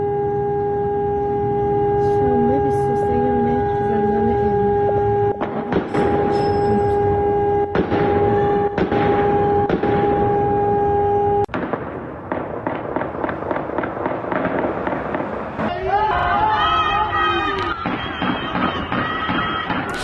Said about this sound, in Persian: به هر حال شاهدان عینی که در شبکه‌های اجتماعی مشاهداتشون رو منتشر کردن گفته بودن که آتش سوزی گسترده بوده، صدای آژیر و تیراندازی و صدای انفجار شنیده شده.